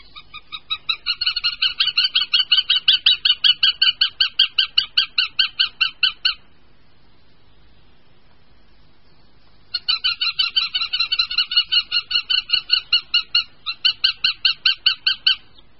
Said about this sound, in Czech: Jestřáb lesní.